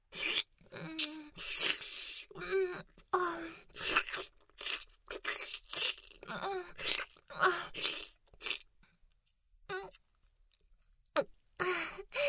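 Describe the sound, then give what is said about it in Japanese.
Wet mouth chewing noises in quick, irregular bursts with smacking and swallowing sounds, continuing steadily before a short quiet pause near the end, then resuming briefly. “それではこのままもぐもぐこっくんしちゃいますね。”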